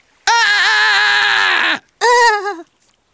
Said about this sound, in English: Now I'll scream above the water.